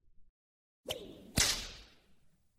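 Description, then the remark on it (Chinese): A whip swishes through the air and lands two sharp, loud cracks on the body of a person forced to kneel, about half a second apart, the second one harsher, followed by a brief fading ring. No one speaks. “看你现在的样子多可怜呐，又是在网上公开道歉，又是被人逼迫下跪，身体还在不断的挨着鞭子。”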